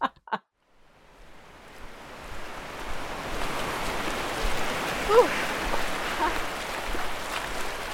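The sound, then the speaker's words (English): Atlantic Ocean surf at Short Sands beach at high tide on a sunny 33-degree winter day, a steady rushing wash that swells in after a couple of brief knocks at the start and keeps rolling, moderately loud. “I decided that I would finish our day trip by putting on my swimsuit and jumping into the Atlantic Ocean at high tide for the second time in my life, doing that winter at least.”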